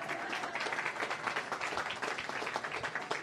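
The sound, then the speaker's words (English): A crowd applauds steadily for a few seconds for the Roland basketball team's record 26 wins: many hands clapping at once in a dense, even wash of sound, with no pauses and no voices standing out. “That's where you get to clap again.”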